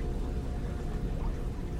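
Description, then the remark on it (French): A river flows steadily a few metres from a wide riverbank, a continuous low, rushing wash of water that holds an even level throughout, with no voices or other distinct sounds. “La rivière est toujours à quelques mètres.”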